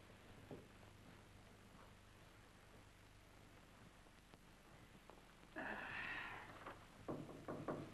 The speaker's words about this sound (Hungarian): Te kopogsz, hát micsoda új divat ez?